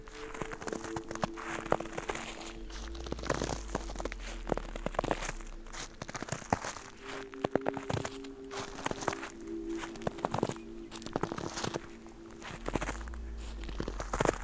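Steady footsteps crunch through a carpet of dry dead leaves on the mountain foothills below the summit, with fresh snow around, each step a crackly rustle in an even walking rhythm, with a low hum running beneath.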